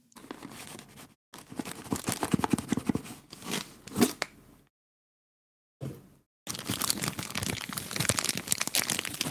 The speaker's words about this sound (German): So ein Karton im Karton im Karton im Karton im Karton. Und in dem Karton. Hört man das knistern? Ja, sehr gut sogar.